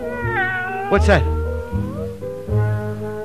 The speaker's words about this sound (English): A cat. A real, live, scrawny, lovely alley cat.